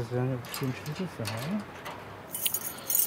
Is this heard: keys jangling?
yes